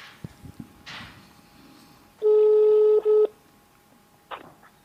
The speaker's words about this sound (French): je vais t'appeler direct avec mon téléphone. Et comme ça, on va discuter ensemble.